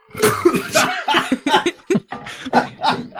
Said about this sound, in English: Why don't we all just cough like we have leukemia? I have bronchitis.